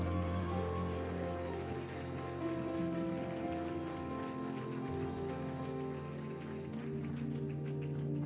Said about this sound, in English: we give God a clap of praise this morning?